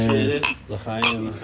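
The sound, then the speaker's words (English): Glasses of kombucha clink together in a toast, two bright ringing taps about half a second apart, with a sustained glassy resonance lingering between them, raised by a group gathered by a hot plate. “and we all gather by the hot plate for a toast.”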